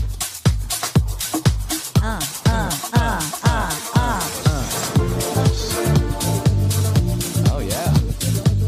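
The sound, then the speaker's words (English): Techno-style club lounge music with a steady thumping kick drum and deep bass, joined by swirling synth melodies that fill out the second half; loud and without any talking. “Yeah, it's like a little touch of techno.”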